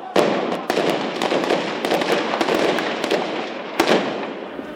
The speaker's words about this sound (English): all of them members of this police unit, seen firing here towards the protesters. That was after 9 o'clock in the morning, as government forces retreated from the square.